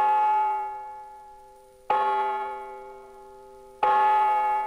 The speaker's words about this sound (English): Then the clock struck midnight.